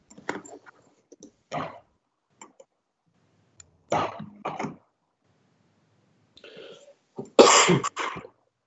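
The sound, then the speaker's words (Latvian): Several sharp coughs come in short separate bursts during a council meeting vote, with scattered small clicks and quiet shuffling between them and the loudest harsh cough near the end. “Neklepo, kas tu klepo.”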